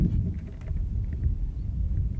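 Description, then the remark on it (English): Wind buffets a microphone taken outdoors on a very windy day, a steady, loud low rumble with gusty pulses and faint hiss above, continuous for the whole stretch with no voices. “So if I take the microphone outside, you can probably listen to the wind.”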